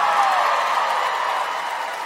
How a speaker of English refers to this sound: Oh, you're applauding that.